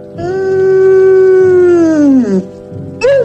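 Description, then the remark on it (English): A Scottish terrier, Jock, lets out one long, sustained mournful howl that slowly drops in pitch and fades, followed by the start of a second howl, while rain falls; loud, with no talking. “With a tear in his eye, Jock sits down and throws his head back, howling mournfully.”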